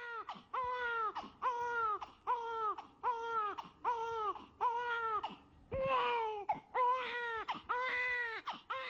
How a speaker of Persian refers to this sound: صدای نوزادی که تازه به دنیا اومده میتونه یک صدای جذاب و شنیدنی باشه و نشان از تولد داره.